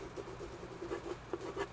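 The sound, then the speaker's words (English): A pencil scratches across paper in a quick series of short, uneven strokes as someone signs a document. It's quiet, with no voices. “No, I just, I need something to sign with.”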